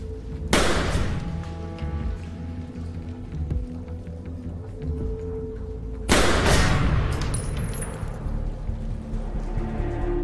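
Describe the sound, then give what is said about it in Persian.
Two loud, sharp gunshots during shooting practice ring out about six seconds apart, each trailing off in a long echoing decay over a steady droning background. “نه نباید گلوله رو هدر. باید تمرین کنی.”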